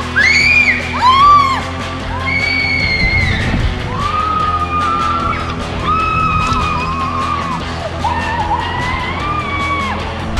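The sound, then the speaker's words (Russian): Several people scream and whoop loudly and continuously while riding down a water slide, their high, wavering shrieks rising and falling over a steady rushing background noise. “А ты помнишь, что кричать не нужно?”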